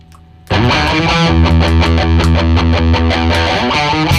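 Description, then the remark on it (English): A heavily distorted electric guitar riff bursts in after a brief quiet moment, then drives on loud and thick with a steady, chugging rhythm of repeated accented strums. No one speaks. “Imagine my sensation when I heard this riff for the first time in my little ears.”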